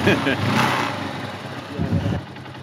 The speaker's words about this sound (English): He tells me to get on his motorcycle. And then he starts touring me around Cali.